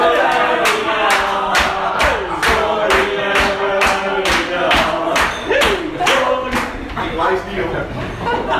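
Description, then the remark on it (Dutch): An audience claps in a steady, rhythmic beat, about two claps a second, while many voices chant or cheer loudly along with it throughout. “Zou ik jullie maar onthouden dat ik indirect verantwoordelijk ben voor dat applaus?”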